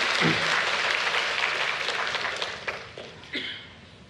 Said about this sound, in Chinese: 我们为这些弟兄姐妹的服侍，我们为他们一起来鼓掌，把荣耀归给主，好吗？